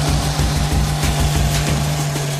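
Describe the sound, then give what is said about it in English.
A heavy TBM engine labors under hydraulic load with a loud, steady low drone and a rhythmic throbbing pulse, continuous, with no voices over it. “You can hear that engine growing with the hydraulics.”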